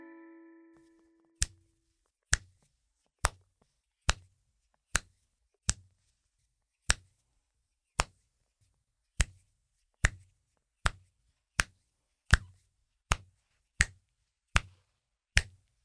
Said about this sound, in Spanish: Creo que muchos de ustedes descubrieron el sonido sorpresa de hoy. El sonido que escuchamos proviene de nuestras manos y fue el del chasqueado de dedos.